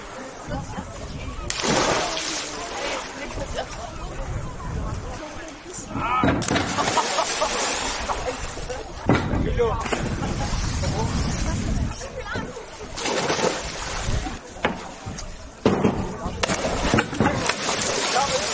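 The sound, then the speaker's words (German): Repeated loud splashes of people jumping from the 1- and 3-metre diving boards into water, several bursts a few seconds apart, over a steady hubbub of crowd chatter and sloshing water at the Naturbad Falkenwiese outdoor pool on the Wakenitz in Lübeck, on a sunny 26-degree day under a bright blue sky. “Das sind Sprünge vom 1- und 3-Meter-Brett bei herrlichstem Wetter.”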